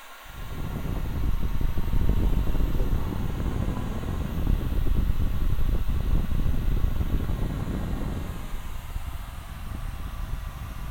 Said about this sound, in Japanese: さて、ではドライヤーいたしますね。よいしょ。ほっ。ではでは、行きます。